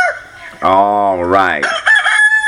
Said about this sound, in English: Yeah, you're gonna need the roosters to get you up. Yeah, wake them up, Benny. Wake them up, Red. Wake them up, Crow.